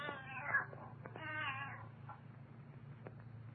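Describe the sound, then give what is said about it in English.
A cat meows twice, two drawn-out, wavering cries separated by a short pause, over a steady low background hum. “Quiet, Ophelia. Ophelia? Huh. And what kind of a name is that for a cat?”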